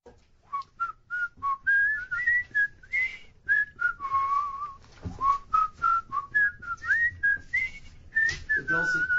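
A lively whistled jazz melody, bright and tonal, with quick bouncing notes that rise and fall in a swinging rhythm, plus a few long sustained tones, heard alone without talking.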